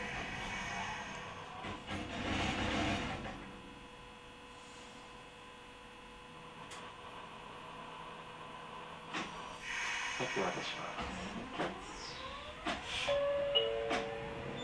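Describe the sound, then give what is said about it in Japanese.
A Kumamoto streetcar on the B line bound for Kami-Kumamoto Station rolls between stops with a steady low rumble and electrical hum, scattered clanks and rattles from the car, and a rising motor whine toward the end. “この電車は B 系統上熊本駅行きでございます。”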